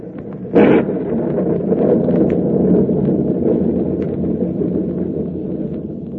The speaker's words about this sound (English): Well, the storm seems to be subsiding somewhat, sir. It may be just a temporary lull, but in case it's a real break, we're going to take advantage of it.